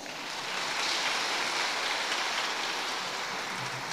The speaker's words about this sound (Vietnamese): Giờ cho các bạn biết đó một tràng vỗ tay thật lớn nào.